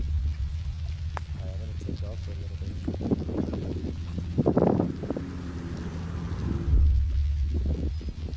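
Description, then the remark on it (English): A steady low motorboat drone rumbles throughout by the dunes, mixed with gusty wind buffeting the microphone; brief bird calls and murmuring voices surface faintly over the hum, which swells louder near the end. “Hear birds and motorboats, and there's quite a lot of seagulls dropping clams onto the ground to break them, which is something I hadn't seen before.”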